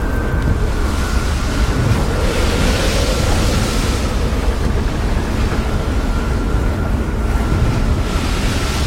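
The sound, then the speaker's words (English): Water pours over the side of a sailboat and runs across the floor, rushing and splashing continuously amid loud, steady wind and surging sea noise as the sailboat rocks over rolling waves, a dense roar with no voices. “Water pours over the side of the sailboat, running across the floor.”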